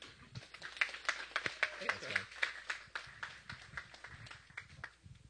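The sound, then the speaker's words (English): An audience claps to give a guest speaker a warm welcome, a steady, crackling burst of many overlapping hand claps lasting several seconds and gradually thinning out toward the end, with faint murmuring beneath. “They never clap for me at my church.”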